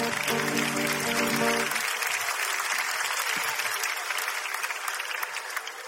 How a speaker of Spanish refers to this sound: Ok, un aplauso para este chico, de verdad, muchas gracias.